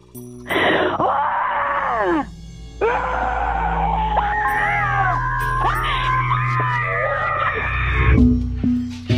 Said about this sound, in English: This is my primal scream.